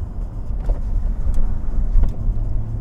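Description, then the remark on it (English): A car drives steadily along back roads with hard, tight corners, its engine a continuous low rumble with road noise and a few brief rattles and bumps from the cabin, fairly loud, with no talking. “I have to get my ass home and wash this car and put it away”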